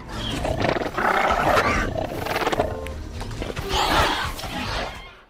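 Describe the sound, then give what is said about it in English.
A raptor-like dinosaur vocalization made mostly from manipulated Gentoo penguin sounds: a continuous stretch of rough, growling chutters and throaty roar-like calls, fairly loud, rising and falling over several seconds with no talking. “They do this sort of chuttering and these softer, cuter sounds that we were able to manipulate and make the raptors more friendly.”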